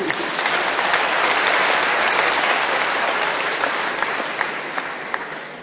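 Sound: audience clapping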